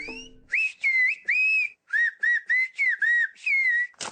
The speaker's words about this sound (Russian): Известен свистящий язык коренных жителей Канарских островов. Он насчитывает порядка 4000 слов.